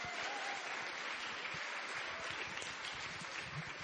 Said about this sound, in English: Welcome and thanks so much for coming out to the Powerhouse Arena. How about a round of applause for our event tonight, the launch of You're the Best by the Satellite Sisters.